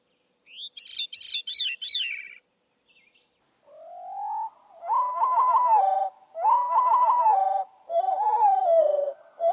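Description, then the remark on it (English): From recordings of wood thrushes and veeries, a brief, high, fluty thrush phrase rings out, then the song is replayed slowed down, deep and drawn-out, with several stretched, warbling phrases following one another clearly, no voices present. “And they're heard at normal speed and then at slow speed.”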